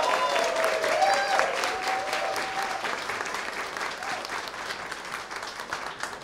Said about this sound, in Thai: ขอเสียงปรบมือให้กับเฟรมมี่ชง